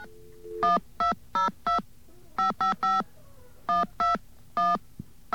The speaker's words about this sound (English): Okay, let's go. Dial tone.